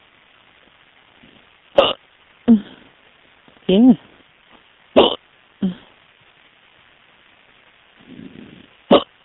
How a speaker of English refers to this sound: They all want to hear my hiccups.